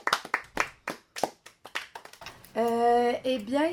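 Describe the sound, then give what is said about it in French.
Audience applause: about a dozen sharp, loud hand claps in a quick, uneven rhythm, followed by a long sustained voice, like a drawn-out cheer or shout. “Ah, des applaudissements, on n'a jamais trop.”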